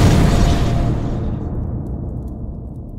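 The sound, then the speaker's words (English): A pulsating sphere of raw magic from a unicorn's horn slams into a wall with a loud, broad explosive burst, sending an avalanche of books crashing to the floor; its bright crackle fades within a second into a steady low rumble that lingers to the end. “The unicorn had just enough time to dive under the table before the energy ball collided with the wall and sent an avalanche of books crashing to the floor.”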